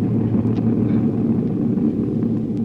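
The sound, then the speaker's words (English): A steady, droning airplane engine hums continuously, a loud low rumble with a faint tonal whine and no pauses or talking, from a plane flying 5,000 feet up, headed for Palm Springs. “So we take you back a few hours and pick up Jack and the gang, who are on their way here by plane. They are now 5,000 feet in the air, headed for Palm Springs.”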